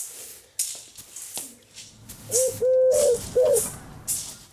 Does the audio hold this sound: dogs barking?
no